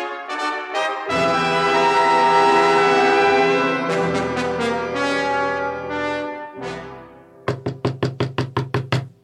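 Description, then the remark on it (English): Loud orchestral music plays, then stops, and a quick, even series of about eight sharp, clear knocks rings out on a door. “Someone's at the door.”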